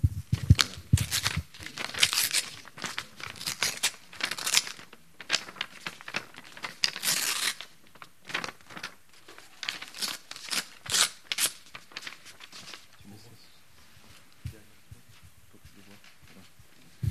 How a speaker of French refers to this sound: Voilà. Qu'est-ce que j'ai fait? J'ai déchiré une feuille en deux.